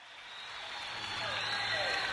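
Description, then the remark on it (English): A crowd of people clapping together in a dense, steady patter of overlapping hand claps that swells slightly louder over about two seconds, with no voices standing out. “The sound of people clapping.”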